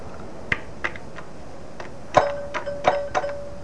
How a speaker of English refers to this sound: And you can ring the bell.